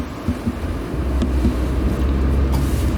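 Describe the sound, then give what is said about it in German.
A bus drives past, its deep engine rumble swelling after the first second and holding steady as a loud, low drone with no voices. “So, wer gewinnt? Bus oder du? Bus. Da sind mehr Leute drin, deshalb ist er stärker.”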